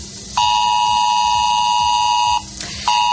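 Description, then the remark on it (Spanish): A loud, harsh ES-Alert emergency alert tone from a mobile phone in Spain, sent by Protección Civil: a steady buzzing mid-pitched blare held for about two seconds, a brief pause, then the same tone starting again over a faint low rumble. “Y desde mañana miércoles, cualquiera de nosotros, independientemente del lugar de España donde estemos, podemos recibir un sonido como este en nuestro teléfono móvil.”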